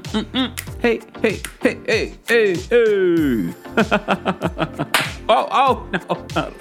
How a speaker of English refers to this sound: Oh, no, not a slap.